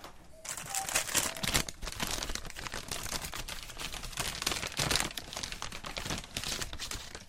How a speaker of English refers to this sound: I took the brush out of its paper bag.